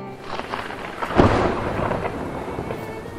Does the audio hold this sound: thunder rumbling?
yes